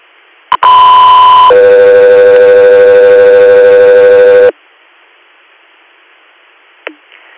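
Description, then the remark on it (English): Radio dispatch paging alert tones: a short click, then two steady sustained tones in sequence, the first about a second long and the second holding for roughly three seconds, loud and clear with no talking. “stand by for tones.”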